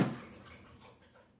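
Soft, wet lapping as Ursula, a female animal, drinks water because she is thirsty; a quiet splashy rhythm that starts with a brief louder slurp and trails off, with no voices.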